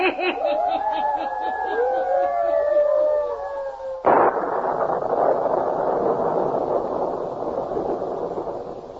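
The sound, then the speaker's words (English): Eerie, wavering tones glide and warble for a few seconds, then a sudden loud thunderclap breaks in and rolls on as the dense, rumbling roar of a small electrical storm. “Matter of a small electrical storm should not trouble you”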